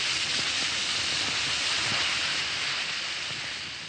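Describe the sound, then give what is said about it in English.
Alka-Seltzer antacid tablets fizz steadily in a glass of water, a continuous bright hiss with tiny crackling pops that fades slightly toward the end. No one speaks. “Just drop a tablet or two into a glass of water like this. Listen to it fizz.”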